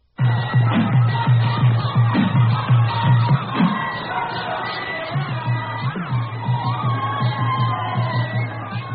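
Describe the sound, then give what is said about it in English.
A rowdy, drunken crowd brawls in a camp in Africa in a continuous loud clamor of overlapping shouts, whoops and yells. The noise surges in the first few seconds, then settles into a steady, slightly lower uproar. “Bunch of drunken Indians in a brawl?”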